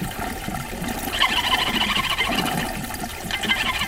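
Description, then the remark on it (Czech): A steady wash of water begins to run about a second in, a hissing, splashing flow that stays fairly loud and continuous to the end, with no voices. “Skočila mi na skákala, až začala tézt voda.”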